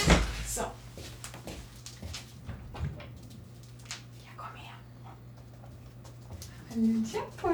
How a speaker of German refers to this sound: Achtung, wird vielleicht ein bisschen quietschen, der Stuhl.